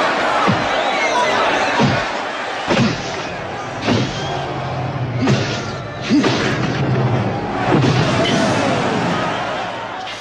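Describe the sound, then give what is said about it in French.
Punchy, exaggerated thwack sound effects meant as punches in boxing footage land one after another at an uneven pace, around seven sharp hits, over a steady roar of a cheering crowd. “Alors, dans cet extrait, j'entends ce qui est censé être des coups de poing.”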